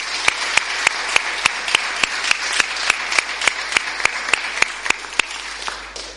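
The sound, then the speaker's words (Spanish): An audience applauds a swimmer who has put on her bronze medal for the 100 metres backstroke, clapping steadily for several seconds, a dense wash of clapping punctuated by sharp, evenly spaced claps in a regular rhythm, with no one speaking. “Le vamos a dar un aplauso, uno más.”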